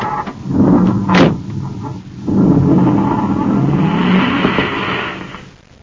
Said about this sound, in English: A few moments after Duncan and Savage roar away in the commander's surface car, another space patrol car rushes to the scene to find Buzz and Happy unconscious on the sidewalk.